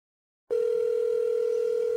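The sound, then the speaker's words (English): After a short silence, a steady electronic phone tone starts and holds unbroken, a clear mid-pitched hum like the ringback heard while a call connects, with no voices; a call being placed from Maine to Vermont. “Three ringing.”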